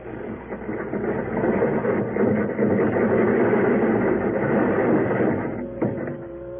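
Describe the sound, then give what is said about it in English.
A heavy crane engine drones loudly and steadily as the boom on a barge lowers a car taken from a river, ending with a metallic clank and a faint mechanical whine. “Tell him to lower the car, Florio.”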